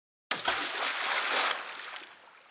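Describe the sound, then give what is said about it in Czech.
Something drops into a lake with a sudden splash, followed by a couple of seconds of sloshing and bubbling that gradually fades. No one speaks. “V tom zafoukal vítr a do vody něco žblunklo.”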